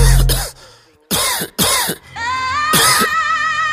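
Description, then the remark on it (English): Four harsh coughs in uneven succession, two of them nearly back to back, over a steady tonal musical backing that keeps playing between the bursts. “But my flow cold, so I'm coughing.”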